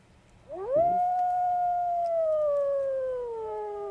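A single howl from a live wolf rises quickly, then holds a long, steady, mournful tone that slowly sinks in pitch. It is loud and clear over faint background hiss, with no talking.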